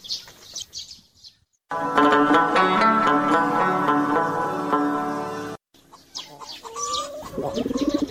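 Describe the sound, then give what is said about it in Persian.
A pigeon coos loudly in a sustained throaty stretch, with brief gaps around it, followed by scattered higher bird chirps near the end. “چرا تو غمبار میزنی او کبوتر جان؟”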